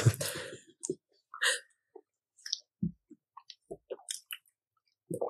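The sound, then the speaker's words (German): A slurp at the start, followed by a scattered series of small wet lip-smacks and mouth clicks with brief pauses between them, no talking, made while tasting. “Die will schlürfen. Natürlich oder noch schmatzen.”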